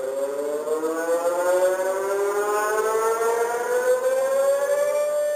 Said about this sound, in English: This is the alarm sound that is supposed to warn Chileans of tsunamis.